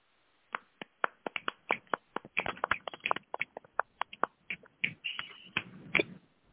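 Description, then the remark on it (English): Scattered applause from a small audience for the evening's featured performers at an open mic night: sharp, crisp claps or snaps from several people, irregular at first, thickening into a busier patter midway, then thinning out. No voices. “Can we get a round of applause for our features this evening?”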